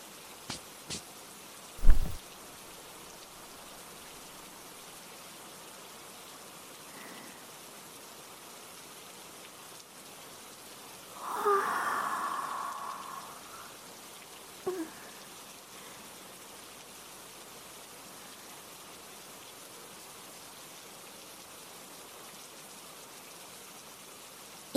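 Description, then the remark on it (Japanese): Steady rain patters on surfaces throughout, a soft continuous hiss with a few sharper drips and knocks, including a louder splash near the start and a heavier gush around the middle. “雨ですね。”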